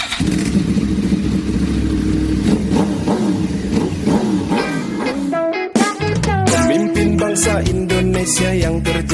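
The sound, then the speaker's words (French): A motorcycle engine revs loudly, its pitch climbing and falling in repeated throttle bursts, with a brief dip before roaring up again. No voices. “Sa monture à lui serait plutôt la moto, à l'image des hordes de cyclomoteurs qui peuplent rues et ruelles des grandes villes indonésiennes.”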